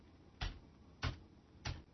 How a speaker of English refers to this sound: And you can hear that even though the text echo setting is set to characters, Copernicus isn't echoing what I'm typing. So I just typed one line of text and pressed enter.